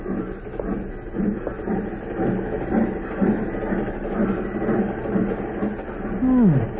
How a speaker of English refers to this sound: This is such a beautiful scenery. And the train is going so fast. It's to make a man feel so important to ride on it.